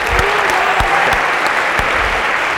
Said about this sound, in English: a big round of applause if we could for Mariana